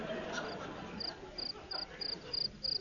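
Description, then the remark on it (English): A cricket chirps in a steady, evenly spaced series of short, high pulses that grow gradually louder over a soft, muffled background hum. “Listen, what's making that noise? The cricket.”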